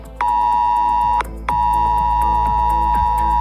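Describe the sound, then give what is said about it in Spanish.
A loud, piercing emergency alert tone from mobile phones in Valencia, Spain, sent because of extreme rain from the DANA storm Alice, blares steadily, cuts out briefly after about a second, then resumes and holds unbroken to the end, with no voices. “Y aquí en España, las alertas han vuelto a sonar en los móviles de los valencianos a causa de la dana Alice que permanece en nuestro país.”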